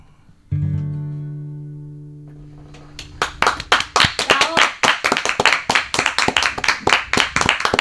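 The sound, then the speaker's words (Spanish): A low sustained musical chord rings out and slowly fades, then a studio audience breaks into loud, steady clapping that continues to the end. “Nos daba miedo hasta aplaudir, ¿no?”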